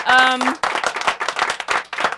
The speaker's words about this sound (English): but here, applause for Ben Dixon.